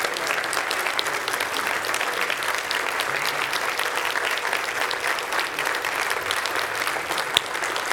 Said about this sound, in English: And with 6 minutes left of my sermon, can we give a prolonged applause